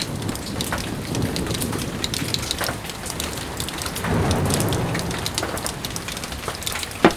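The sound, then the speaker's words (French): Steady rain pours down, a dense hiss speckled with sharp individual drops pattering on a surface, with a low rumbling swell partway through and no voices. “Tu n'entends pas? Il pleut, mon vieux.”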